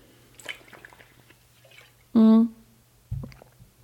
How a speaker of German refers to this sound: Genau, so, jetzt kommt der erste Schluck Wasser, Sekunde.